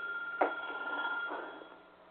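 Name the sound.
telephone ringing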